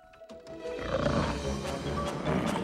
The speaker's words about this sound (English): It has eyes and it growls menacingly.